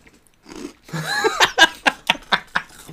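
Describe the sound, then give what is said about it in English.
Someone crunching hot Cheetos: about seven sharp, crackly bites in a quick, steady rhythm, loud and dry, following a brief murmuring, tonal vocal sound. “That was a good crunch. I hope they got it.”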